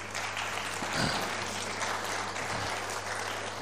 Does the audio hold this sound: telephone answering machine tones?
no